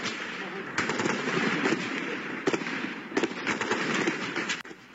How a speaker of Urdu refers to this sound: Afghan forces اور حملہ آوروں کے درمیان پوری رات اور آج مقامی وقت کے مطابق شام 6 بجے تک فائرنگ اور لڑائی جاری تھی.